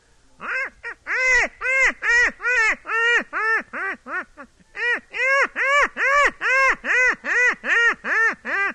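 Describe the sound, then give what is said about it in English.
A loud imitation of a wild duck's call, as used to fool ducks when duck hunting: a rapid run of nasal quacks, pausing briefly midway before another steady string of evenly spaced quacks. No one talks. “Your ducks, well, tame, some of the tame ducks and wild ducks sound alike.”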